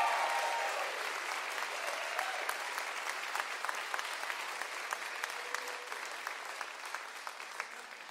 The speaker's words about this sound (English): Man takes photograph, crowd goes wild.